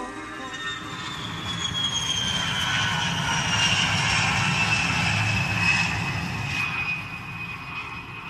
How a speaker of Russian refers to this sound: Самолет улетит в небо.